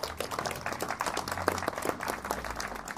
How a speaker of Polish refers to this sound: Prosiłbym o wielkie brawa.